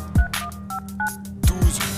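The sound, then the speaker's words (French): A short sequence of about four telephone keypad tones entering a secret code for voicemail, each a brief two-pitch beep, dialed at an uneven pace, with deep low thumps punctuating the sequence. “Composez votre code secret et terminez par 12.”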